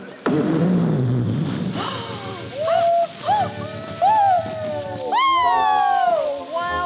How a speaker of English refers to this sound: Wow, all I can say is wow. That was some... Explosion, mister.